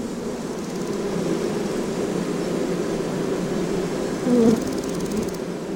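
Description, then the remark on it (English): A dense, steady drone of many bees buzzing together, from an exhibit panel showing a recreated traditional beehive with a hologram of a cloud of bees, fills the whole stretch, continuous and fairly loud, with a brief swell of a higher buzz near the end. “In the middle of the panel, one can see the scenic recreation of a traditional beehive and the hologram with a cloud of bees around it.”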